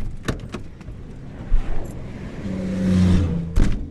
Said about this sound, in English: three lanes of cars and trucks keep barreling down the road toward our crippled car